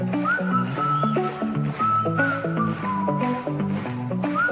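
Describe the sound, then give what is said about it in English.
A clear, sliding whistled melody floats above a full band accompaniment, with steady drum hits keeping a regular beat underneath. No one speaks. “on the whistle.”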